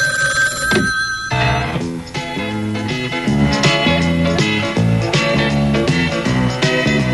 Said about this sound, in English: I think the phone's gonna ring. Told you.